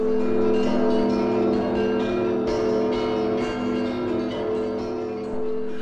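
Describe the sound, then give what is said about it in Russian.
Church bells in the city of Kiev ring out in a continuous peal, with repeated overlapping strikes and a rich, sustained ringing hum that stays loud and full throughout, with no voices. “Город Киев встретил богатыря и забаву путятишну колокольным перезвоном.”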